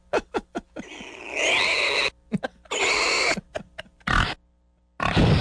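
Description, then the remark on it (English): A pig grunts in quick short bursts, mixed with longer harsh squealing oinks, loud with brief pauses between, and no one talking. “Well, that's a good pork producer there.”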